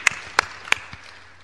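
A brief, sparse round of applause: three sharp, evenly spaced claps and then a softer fourth, fading into quiet with no voices.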